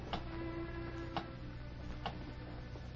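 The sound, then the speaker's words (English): A big clock ticks steadily, three crisp ticks roughly a second apart, over a constant low background hum with no voices. “The third man, still wearing the white apron of a bartender, looked nervously from the bedroom door to the big clock.”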